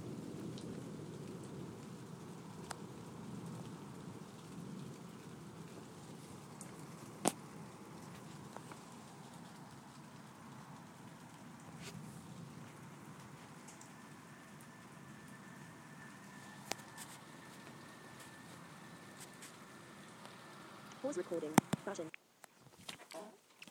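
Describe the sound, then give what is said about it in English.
Soft thunder rumbles low and steady beneath a constant wash of rain, with occasional sharp drips and taps standing out near the end. “It's funny thunder, it's not really loud, but Phoebe's still out here.”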